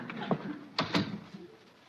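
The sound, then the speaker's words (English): A door opens with a few short clunks and a rattle of the latch, followed by quiet; no one speaks. “You get inside and answer the door.”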